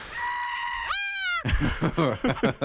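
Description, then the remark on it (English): A long, drawn-out goat bleat, loud, bending upward in pitch and smeared by heavy echoing reverb, followed by a burst of choppier, wavering cries. “Possessed goat. The reverb on that is fucking outstanding.”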